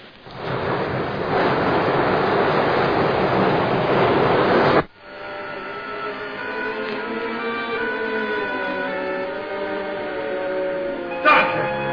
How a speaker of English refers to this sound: Water rushing down to turn the turbines. That'll make the machines work.